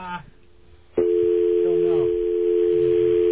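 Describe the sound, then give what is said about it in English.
A steady telephone dial tone starts abruptly after about a second and holds loud and unbroken to the end as a call is placed to an office, with faint voices murmuring underneath. “Oh, yeah, let's call up to our office.”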